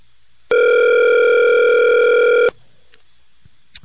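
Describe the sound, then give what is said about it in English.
One loud, steady ringback tone sounds for about two seconds on an outgoing phone call, then cuts off into near silence broken only by a couple of faint clicks. “I think he disconnected his phone already.”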